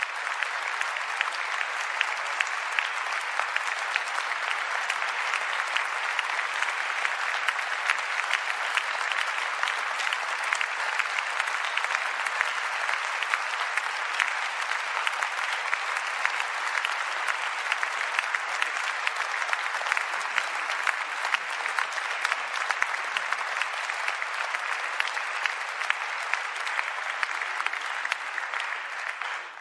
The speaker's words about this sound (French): Mesdames, Messieurs que j'ai cités, si vous voulez vous lever pour que, ensemble, nous vous applaudissions.